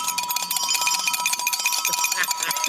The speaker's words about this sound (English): here as well with a makeshift coffee mug and a spoon